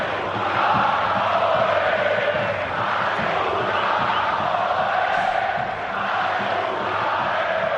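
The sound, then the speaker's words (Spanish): A large stadium crowd of football fans at Montjuïc chants "A Segunda" at Almería loudly and steadily, many voices merging into a sustained, rhythmic roar that swells and dips slightly over several seconds, with no single voice standing out. “Un sonido desagradable que se ha producido hoy en Montjuic. Los cánticos de A Segunda a la Almería.”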